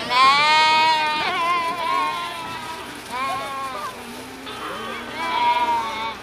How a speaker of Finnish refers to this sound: No niin, nyt lampaat tulee tässä kesälaitumille. Montako lammasta sieltä pitäisi tulla tänne? 30 karitsaa pitäisi tulla. Nyt pitää yrittää laskea, kun ne juoksee ulos sieltä, että onko niitä oikea määrä.